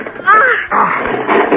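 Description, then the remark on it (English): A heavy, stuck barn door is forced open by two people pulling hard: a short high squealing creak, then a sustained rough grinding scrape that stays fairly loud for over a second. “Here, help me open the door. It's very heavy, but if we both pull hard...”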